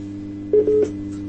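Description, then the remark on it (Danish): A telephone line connecting, with a couple of short electronic beeps from a call being dialed to a prize winner over a steady low line hum; no one speaks. “Ja, vi ringer jo lige til den heldige vinder, og så må vi lige se om hun”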